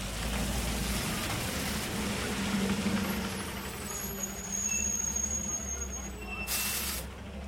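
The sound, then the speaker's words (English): Heavy buses idle at a large outdoor bus depot run by the Massachusetts Bay Transportation Authority in Dudley Square, Boston, with a steady low engine rumble, and a sharp burst of air-brake hiss cuts in near the end. “A large outdoor bus depot here is operated by the Massachusetts Bay Transportation Authority, known to everyone as the T.”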